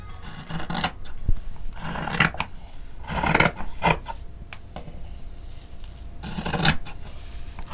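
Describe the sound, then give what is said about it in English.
Scissors slice through fabric in a series of crisp, rasping cuts, some drawn out and some short, with brief pauses between them. Moderately loud, with no voices. “Like the sound and the feel of scissors just slicing through fabric is kind of like zen.”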